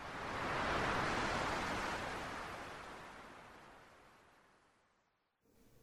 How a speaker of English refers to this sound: And as the waves constantly churn, so it seems that my fate and my soul churn with it.